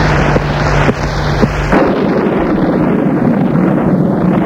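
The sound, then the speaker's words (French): A thunderstorm roars on in a loud, steady wash of wind and rain-like noise, with a low droning rumble underneath that drops away after the first couple of seconds. No one speaks. “Dehors, il fait toujours de l'orage.”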